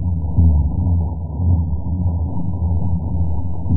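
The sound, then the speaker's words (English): A dense underwater chorus of spawning fish during the spawning season, reaching 165 decibels: low booms overlapping one after another into a steady, loud, throbbing drone with no breaks and no voices. “Yeah, it almost sounds like propellers from a boat. And it's just this, one boom after another.”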